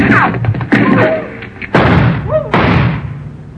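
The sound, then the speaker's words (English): Three loud gunshots, fired from the shadows, ring out about a second apart, each a sharp blast with a rumbling tail, over scattered background commotion and faint whistling tones. “Dr. Mitter left in the direction those shots came from.”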